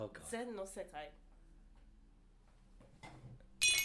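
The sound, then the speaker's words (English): A woman's voice imitates chimes with a few short, sung, bell-like tones, followed by a quiet stretch and then a sudden burst of noise at the end. “She even does her own chimes.”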